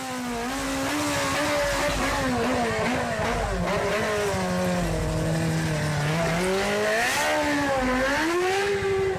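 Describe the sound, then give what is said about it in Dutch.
A motorcycle engine revs loudly and continuously, its pitch climbing and dropping through several throttle swells, with no voices over it. “De kwetsbare groep die het gevaar zelf opzoekt en dat van omstanders in gevaar brengt, zijn de vieverende motoren.”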